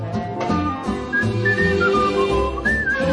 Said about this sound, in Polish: Kocham śpiew, kocham gwizd. Świat się cieszy, ja wraz z nim, tak mi dobrze, tak dobrze z tym.